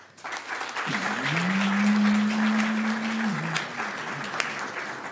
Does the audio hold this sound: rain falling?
no